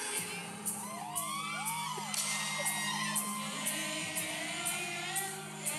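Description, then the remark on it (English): A crowd at a live show whoops and hollers continuously, with rising and falling yells over a dense wash of cheering and noise, punctuated by sharp periodic bangs. “I said everybody was pooping and hollering in the crowd.”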